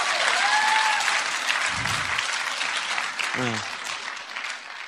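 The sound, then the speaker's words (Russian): A large audience claps steadily and loudly for several seconds, a dense continuous wash of applause with a brief whistle near the start and a short shout partway through. “Поэтому иногда я хочу попросить тебя делать аплодисменты, потому что я боюсь.”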